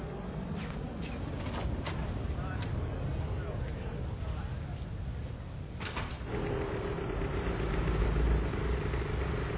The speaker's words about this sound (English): if you ever want to go to the beach, here's the freeway you take that we're on. Of course, on the weekend, there's no traffic.